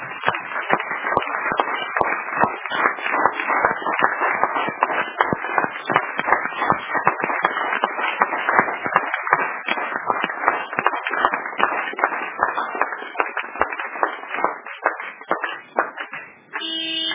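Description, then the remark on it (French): A crowd applauds steadily for about seventeen seconds, a dense, fairly loud wash of clapping with a slightly muffled, narrow tone that dips briefly near the end. “Applaudissez d'abord pour les secrets.”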